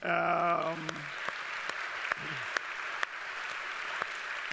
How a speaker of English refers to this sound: Can we give a clap to all the mothers for accepting us?